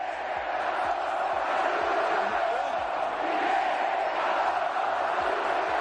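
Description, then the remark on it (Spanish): A massive crowd of about 80,000 people at the Bernabéu stadium chants in unison at Barcelona defender Piqué, a loud, continuous roar of many voices, with regular low thumps pulsing underneath like a steady beat. “80.000 personas coreaban ese grito, el de Piqué Tantón, saluda al campeón.”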